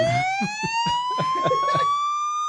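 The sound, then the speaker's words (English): A fire truck siren wails steadily, its bright, buzzy tone slowly climbing in pitch, while a series of short, irregular thuds and clatters sound beneath it. No one speaks. “I'm going to walk over here to the fire truck.”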